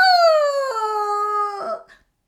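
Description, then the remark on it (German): A voice imitates the loud howl of a small Brownie in pain after glowing embers from the fireplace hit its foot: one long, sustained wail that slides slowly downward in pitch, then breaks into a rough, ragged tail before cutting off. “Der Brownie heulte so laut, dass Ian sich vor Schreck in seiner Bettkiste verkroch.”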